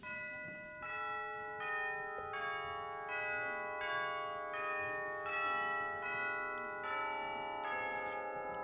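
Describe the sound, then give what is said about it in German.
Church bells peal steadily, a series of bright overlapping strikes roughly every second, their long ringing tones layering into a rich, continuous clangor with no voices. “Goldenes Sonnenlicht, himmlischer Himmel, süße frische Luft, bim, bam, ding, dong, fröhliche Glocken, herrlich, herrlich.”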